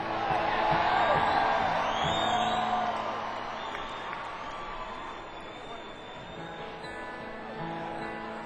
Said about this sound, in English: fun singing crowd out here.